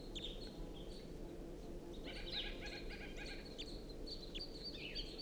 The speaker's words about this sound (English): It's recording a wild bird. It's perched in the tree above the net now, singing. Stopped. But the bird is there.